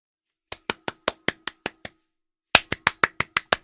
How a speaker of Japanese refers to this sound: 全集中央の全集中拍手。